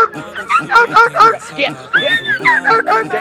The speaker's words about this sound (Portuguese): E eu tô com meu cachorro aqui, eu vou soltar no seis.